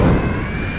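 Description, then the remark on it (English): A sudden, loud fiery blast erupts as a succubus's fire spell engulfs a corridor, a dense roaring burst with a bright, shattering edge of breaking glass as beetles' crystalline bodies crack in the heat, holding steady for under a second before easing slightly. “The succubus's spell engulfed the corridor behind the group in fire. The sound of breaking glass could be heard within the swirling flames as the intense heat caused the beetles' crystalline bodies to crack.”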